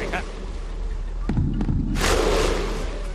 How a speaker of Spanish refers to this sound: El grito vikingo ahí, todos ahí puestos al unísono.